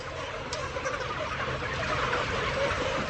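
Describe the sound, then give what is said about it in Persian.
A dense, steady din of many chickens clucking and murmuring together inside a poultry house, where the chicks are kept in darkness and never see sunlight. The sound forms a continuous crowded wash with no single call standing out. “وینس قرار گذاشت داخل مرغداریشو به ما نشون بده.”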